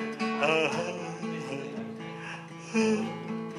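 A person gives a long, drawn-out voiced yawn, the pitch sliding and wavering over several seconds, fairly loud, with a final stretched swell near the end.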